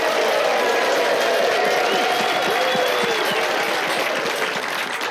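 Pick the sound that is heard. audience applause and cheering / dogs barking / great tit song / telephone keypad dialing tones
audience applause and cheering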